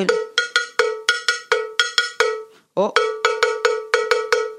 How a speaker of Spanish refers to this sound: la campana, el cencerro, que por supuesto anda por el Caribe en tantas músicas y también se incorpora a las músicas colombianas, haciendo el paliteo, aquel de la tambora, aquel del... Empieza... Va llevándolo en la campana